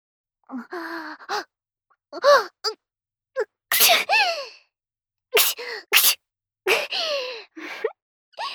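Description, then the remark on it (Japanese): A string of loud sneezes into someone's face, each preceded by a rising, breathy intake, coming in quick succession over several seconds, performed by a voice. “ごめんね。顔にくしゃみして。”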